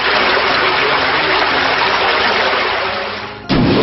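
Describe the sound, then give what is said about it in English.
A loud, steady gush of rushing water surges for several seconds, the video game move Drench, a Water-type special attack used by Hydric in a battle, then cuts off into a short low impact burst at the end. No voices. “Scamish Drench, Water, Special, Hydric use Drench.”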